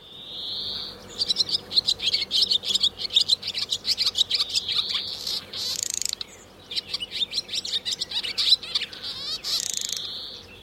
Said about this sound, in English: And I started playing the sound of the bird over and over again to her as I was squeezing the bird model. And her eyes just absolutely snapped open after a moment. And she looked up at me and she just smiled like she recognized that sound.